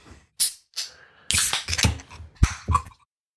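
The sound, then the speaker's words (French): A beer can is cracked open: a few sharp metallic clicks and pops, then a brief fizzing hiss as the tab gives way, with no talking over it. “Un, deux, ouvert trois.”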